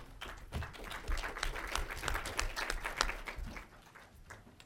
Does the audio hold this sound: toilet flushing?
no